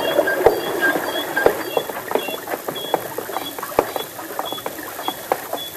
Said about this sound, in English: Say, let's get away from this infernal water wheel so that we can hear ourselves think.